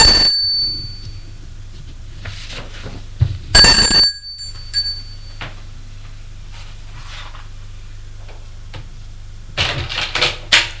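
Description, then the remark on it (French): A bright, rattling doorbell of a second-floor apartment, rung by a woman at 1:50 pm, sounds in two short bursts, one at the start and a louder one a few seconds later, over a steady low hum with scattered clicks and shuffling. “Lorsqu'elle sonne, il est 13h50.”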